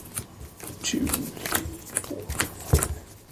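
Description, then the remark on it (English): A deck of playing cards being shuffled before drawing eight cards for a card game, a run of quick crisp riffles and flutters with soft slaps, fairly loud over a quiet background. “So we will shuffle and we'll draw eight cards.”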